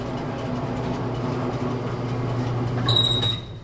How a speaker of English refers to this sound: a lift installed next to the front porch. And basically, all I do is just roll up here, just turn it on, and just lifts me up to the front.